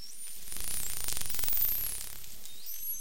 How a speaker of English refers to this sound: There are a lot of interesting natural sounds out there, such as whale songs. Dolphin clicks.